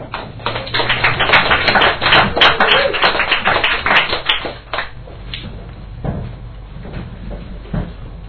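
An audience breaks into a round of applause: a dense, loud clatter of many hands clapping for about five seconds, then thinning out into a few scattered claps.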